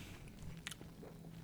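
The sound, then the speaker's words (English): A man chews pizza topped with lardo, quiet and wet, with one sharper crunchy bite midway, over a low steady background hum. “Yes, as you can hear him chewing away.”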